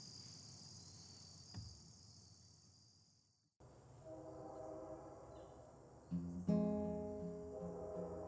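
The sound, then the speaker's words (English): Crickets chirr steadily, then a passenger train, train 27 headed west, rumbles in and its horn sounds, swelling into a loud, sustained blast over the rolling noise of the cars. “I was on the Empire Building, train 27, headed west”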